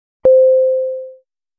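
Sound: chime sound separating words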